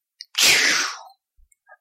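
A single airy swoosh effect: a loud, bright rush of noise that sweeps downward in pitch and fades out within about a second, followed by a few faint ticks. No one speaks.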